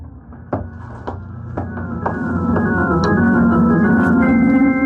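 A series of evenly spaced thuds, like steps moving off, followed by a door opening and closing as a man walks away and leaves through it, as a sustained musical drone swells steadily louder underneath.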